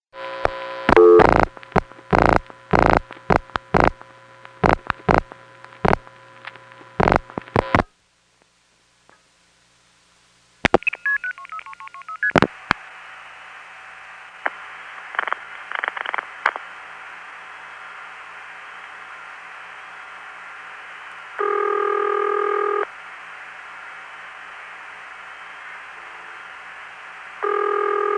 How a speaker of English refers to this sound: That's an unusual ring for an NX1, but not for an independent.